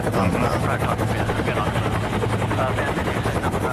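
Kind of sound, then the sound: vehicle, helicopter rotor noise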